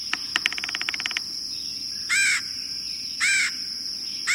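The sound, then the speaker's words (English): A red-headed woodpecker opens with a quick rattling burst of notes, then gives two loud, harsh, raspy calls about a second apart, over a thin, steady high-pitched whine. “There are ways we can help the red-headed woodpecker.”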